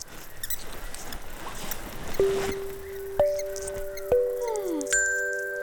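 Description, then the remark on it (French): A mouse squeaking: scratchy scurrying patter, then four separate squeaky tones spaced about a second apart, one bending downward, fairly loud, with no talking. “Car chacun sait que la terreur des éléphants, c'est la souris, évidemment.”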